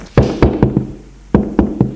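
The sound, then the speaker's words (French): Knocking on a wooden door off a first-floor corridor: a round of four solid knocks, a short pause, then three more. The hollow raps are fairly loud, and no one speaks. “Au premier, elle suit un couloir et frappe à une porte.”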